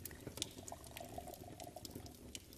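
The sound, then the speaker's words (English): A drink is poured into a glass, a steady stream of gurgling, splashing liquid that runs for a couple of seconds without pause. No one speaks. “Sink into that chair and close your eyes while I pour myself a drink.”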